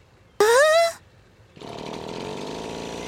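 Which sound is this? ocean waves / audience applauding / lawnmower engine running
lawnmower engine running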